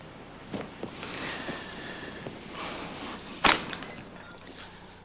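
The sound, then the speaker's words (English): A glass bottle is smashed once at a cemetery during a graveside ritual, a loud, sharp crash cutting through a quiet outdoor background, with a few faint clinks and scrapes before and after. “The breaking of the bottle is a mysterious moment.”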